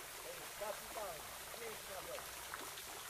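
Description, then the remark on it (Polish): Water pours and splashes steadily down a rock portal in the touch-sense alley of a palace park, a continuous rushing trickle at moderate volume, with faint, indistinct voices murmuring briefly in the background. “W alejce zmysłu dotyku znajduje się skalny portal, z którego spływa woda.”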